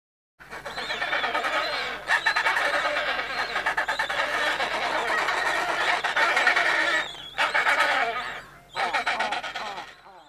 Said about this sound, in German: So findet ein Pinguinpaar, also ein Pinguinmännchen und ein Pinguinweibchen, jedes Jahr wieder zusammen. Hallo, wo bist du? Ja, so ähnlich. Nur in der Pinguinsprache. Das klingt dann ungefähr so.